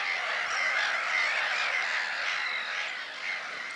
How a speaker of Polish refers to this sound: Często powstają one z powodu ograniczenia miejsca na założenie gniazda, stąd na przykład kilkaset mew czy rybitw na wyspie zbiornika wodnego. No właśnie, słyszymy kolonie mew śmieszek.